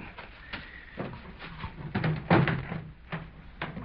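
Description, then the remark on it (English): A gasoline station door is unlocked by reaching in through broken glass and pushed open, a series of mechanical clicks and dull clunks from the latch and handle, with a heavier knock near the middle and no voices. “Just break the glass, reach in, and unlock the door.”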